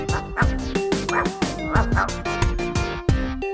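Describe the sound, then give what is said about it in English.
A thin, brown dog barks rapidly and repeatedly, a quick string of about a dozen loud yaps and woofs running back to back with no pauses and no voices. “It's thin and brown. It's got four legs. It's a dog.”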